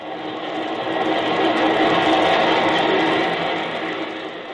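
A loud, continuous roar of elevated trains rumbling past overhead in Chicago on a hot day, swelling in the middle and easing slightly toward the end, with broad metallic rushing noise and no voices.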